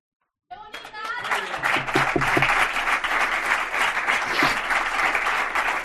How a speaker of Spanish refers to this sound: Tenían que aplaudir a … para que pudiese respirar, ¿no? Porque se emocionaba, los gestos, bueno, de sus compañeras en la grada eran similares, de emoción,